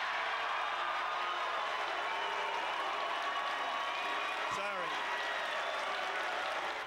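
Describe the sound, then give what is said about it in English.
A large crowd of Ron Paul supporters boos Donald Trump loudly and steadily for about seven seconds, a dense, unbroken roar of many voices with one voice briefly rising above the rest near the end. “That was some serious booing.”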